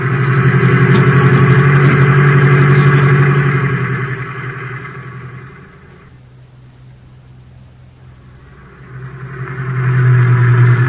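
A taxi cab's engine drones loudly as it drives, easing off into a quieter lull midway before revving back up to full strength near the end, with no voices.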